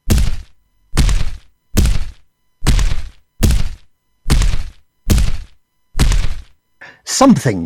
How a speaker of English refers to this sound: He heard a door bang open and footsteps approaching.